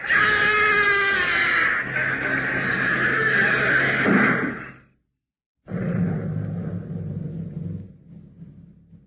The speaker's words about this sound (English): Inspector, the door is closing. We will be trapped to die. No! Stop! Don't close the door. We can't get out. We'll die.